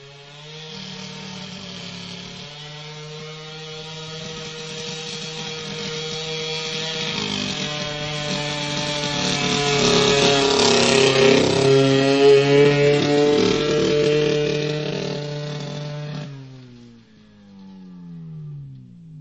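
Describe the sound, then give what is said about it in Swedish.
A Snotrick 678 snowmobile ridden by a 90 kg male driver drones steadily as it drives over crusted snow, its buzzing whine swelling louder midway, then dropping in pitch and fading as it passes. No voices. “Ni ska höra hur den låter i skare. Vi har nu kommit fram till Snotrick 678 årsmodell. Skoten är här framförd av en 90 kilos manlig förare.”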